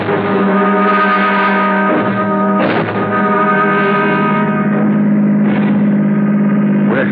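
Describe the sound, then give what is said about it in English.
A car engine runs loud and steady, a low rumbling hum that swells in a few brief revs, with no talking over it. “Okay, shall we step over to the car?”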